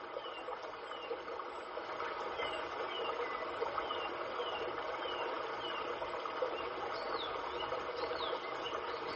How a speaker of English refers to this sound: The waterfall.